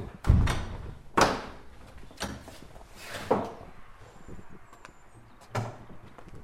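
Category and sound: household object, doors opening and closing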